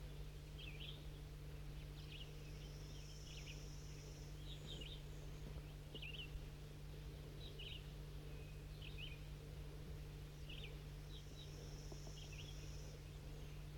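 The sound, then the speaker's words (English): Calls of a crossbill sitting in the top of an oak tree: short, sharp, high chips repeated in loose irregular bursts throughout, fairly faint, over a steady low hum and background hiss, with a thin higher trill drifting in twice. “I'm way up on my way down with these four newly caught birds, and I hear a crossbill sitting in the top of this oak tree.”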